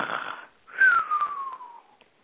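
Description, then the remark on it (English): A voice imitates a bear snoring: one breathy inhale followed by a long, wheezy exhale that tapers off, moderately loud with no other sounds. “And now the bear is snoring snugly in his den.”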